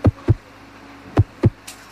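A foley heartbeat made by striking tightly stretched cloth: two pairs of deep, muffled thumps in a lub-dub rhythm, each beat loud and short, with quiet between the pairs.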